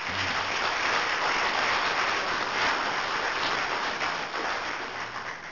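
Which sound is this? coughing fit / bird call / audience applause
audience applause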